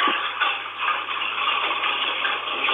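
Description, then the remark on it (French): Hailstones of all sizes, the largest about the size of a cigarette pack, pelt down in a dense, unbroken clatter of countless small impacts, steady and fairly loud throughout, with a thin, tinny phone-video quality and no voices. “C'est des grêlons d'au moins, il y en avait un peu toute taille”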